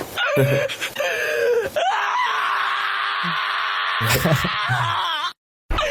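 A large dog screams loudly while having its nails clipped, starting with short yelps and then letting out one long, strained, wavering howl for several seconds before it cuts off abruptly.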